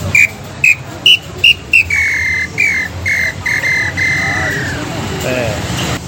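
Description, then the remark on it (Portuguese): A carved wooden bird call whistle imitating the lambuá bird gives five quick, bright chirps, then a run of longer steady whistled notes that slide slightly downward and fade, all over a low rumbling background. “Um pedacinho de madeira que guarda a imagem do som do pássaro, desde que o operador dessa máquina reprodutora seja capacitado.”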